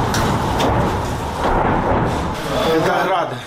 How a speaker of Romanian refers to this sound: Sunt rachete Grad. Au căzut foarte aproape.